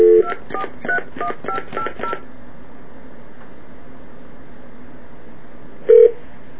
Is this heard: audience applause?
no